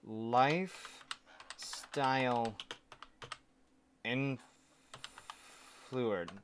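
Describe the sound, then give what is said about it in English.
Quick, irregular clicks of typing on a computer keyboard at a desk, as someone Googles a term, fill the gaps between short bursts of a person talking, the keystrokes crisp but fairly soft. “Yeah, I've been at my new desk for 20 minutes and I've already got BlackBerry on my keyboard.”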